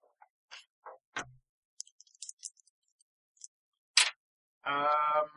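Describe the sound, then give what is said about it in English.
Small dice clatter and tumble in a quick series of light clicks and taps, followed by a short buzzy tone at the end. “I didn't roll 13 on the dice, sorry.”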